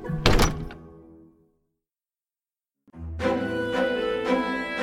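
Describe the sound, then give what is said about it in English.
A heavy door, opened and stepped through, thuds shut with a single solid impact that rings out and fades, followed by a stretch of silence before music swells in. “I grabbed the handle, felt the weight of the orb in my pocket, opened the door, and stepped through.”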